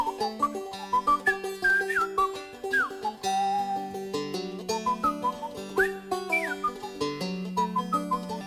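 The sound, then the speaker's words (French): A lively whistled tune, a song for the birds, with chirpy, bird-like upward slides and trills, played over a soft, steady musical accompaniment. No one speaks. “» Et il siffle à son tour.”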